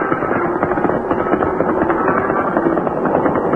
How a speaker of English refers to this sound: You hear that? Gunshots.